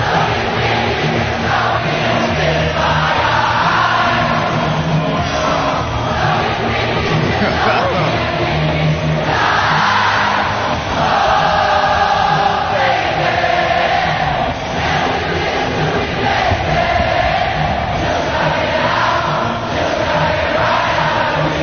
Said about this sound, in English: Now that would have been amazing to be in that crowd, because the concert hasn't even started. Wow. Already you have the sense of camaraderie around you as 65,000 people are singing a song together, huh?